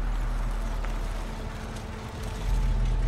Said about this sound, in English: A truck pulls up on the side of the road. It drives past.